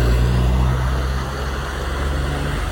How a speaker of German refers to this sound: Das sind so gepanzerte Truppendinger. Wow. In Wüstentarnfarben.